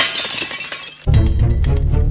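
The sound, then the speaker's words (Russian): A clay jug, dropped from a hand, smashes on a hard floor: a bright, scattering crash of breaking shards, then a sudden heavy, booming thud with rattling debris, loud. “Рука у Синдбада разжалась, и глиняный кувшин грохнулся на пол.”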